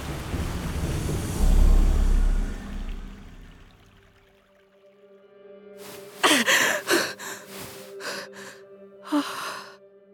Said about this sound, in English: Rhea woke up, gasping for air.